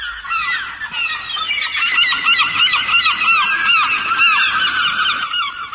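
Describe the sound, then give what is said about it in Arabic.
A dense chorus of geese honking continuously, many overlapping calls from a sizable flock, loud and close throughout with no pauses. “نذكر من بين الطيور الكفية الرجلين النورس والأوزة.”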